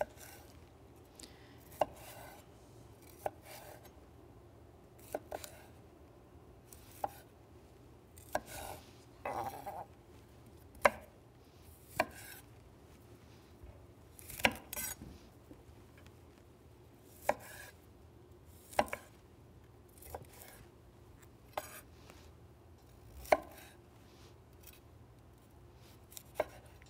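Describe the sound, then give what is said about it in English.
A knife chops broccoli florets into bite-sized pieces on a cutting board in sharp, irregular knocks, fairly loud, with short pauses between cuts and a low steady hum underneath. “So just chop all the florets off and some of them will need to be cut through the middle.”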